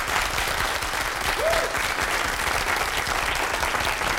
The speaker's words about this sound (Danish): Skal vi ikke give dem en hånd?